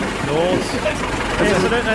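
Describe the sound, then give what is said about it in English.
A propeller plane engine drones and sputters unevenly at a steady moderate level for two seconds, with wavering voice-like tones over the low rumble. “That's not getting over. Sounds like an old tiger moth.”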